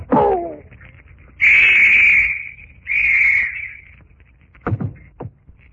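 Two loud, shrill police whistle blasts, each about a second long with a short gap between, blown by police at a secret port by a wharf to summon others, followed by a couple of faint knocks.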